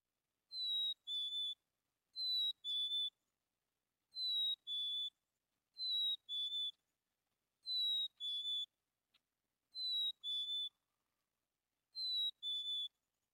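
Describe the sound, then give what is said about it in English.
A chickadee sings its clear two-tone whistled territorial song as spring arrives, a higher note dropping to a lower one, repeated seven times at steady intervals, crisp in an otherwise quiet setting. “Right now, the chickadees are starting to make a different sound, which is like two very clear, crisp tones. And that's their territorial sound.”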